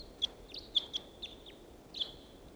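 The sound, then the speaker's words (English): A single wild bird calls from the trees above a net with a series of short, high chirps, about six notes spaced irregularly, fairly clear above a low steady background hum, with no one talking. “Wild bird sat down in the trees above the net.”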